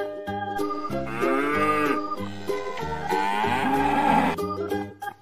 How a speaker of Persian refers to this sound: درسته که شاخ داری، یه گاو مهربون باش. بازم بگو ما و ما، علف برات میارم، فقط یکم شیر میخوام، کاری باهات ندارم.